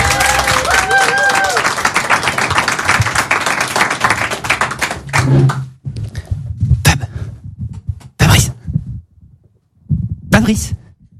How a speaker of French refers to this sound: Et bien c'est parti sous vos applaudissements!